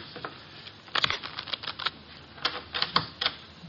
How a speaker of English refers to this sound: The cards are shuffled. I'll place them in the center of the table.